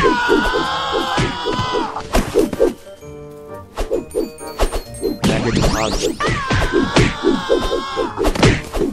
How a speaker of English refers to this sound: And you guys may have been able to catch, there is a Wilhelm scream in here somewhere.